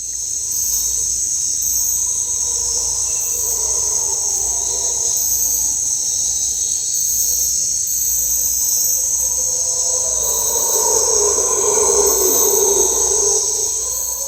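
Howler monkeys roar in a forest in long, low, droning swells that build louder toward the end, set against a constant high-pitched chorus of crickets and insects.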